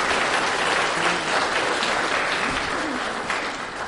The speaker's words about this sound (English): Could you just give her a little hand of applause?